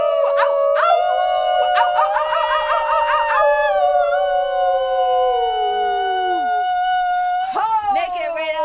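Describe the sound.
Several people howl together in long, sustained wolf-like wails, overlapping and wavering in pitch, loud, with a fresh burst of howls near the end.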